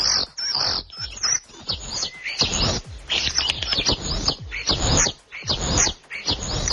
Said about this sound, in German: Das ist ein Star, ein wahrer Gesangskünstler. Ja, da war ich ein bisschen enttäuscht, muss ich ehrlich sagen. Also das klingt nicht ganz so. Dem muss so man schön. Länger zuhören, ja. Der hat so ein paar Rufe, die immer wiederholt werden.